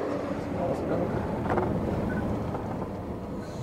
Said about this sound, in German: Jetzt kommt ein großer LKW, der mal hier durch will.